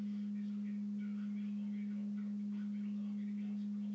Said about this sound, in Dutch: De verwarming is aangezet en de ketel maakt een ongelofelijke herrie in de gang in de slaapkamer op de eerste etage. Luister maar. Ik sta nu in de gang. De deur van het ketelkamertje is dicht.